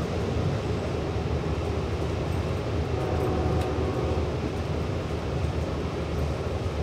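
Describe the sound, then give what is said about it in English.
Steady low rumble and rattle from inside a moving Long Island Railroad commuter train car in 2017, a continuous dense roar of wheels on track with faint clacks and hiss throughout, no voices. “Riding the Long Island Railroad, back in 2017.”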